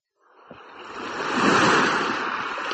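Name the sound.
sea waves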